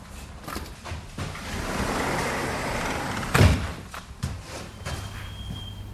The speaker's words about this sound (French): On s'arrête ici pour s'habituer aux voitures qui passent. On n'est pas dans le calme de la campagne.